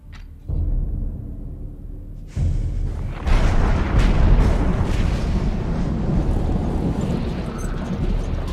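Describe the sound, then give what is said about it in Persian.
A storm rolls in: deep rumbling starts low and steps up in stages into a loud, sustained roar of gusting wind that fills the scene with no voices. “چه طوفانی داره میاد سمتمون.”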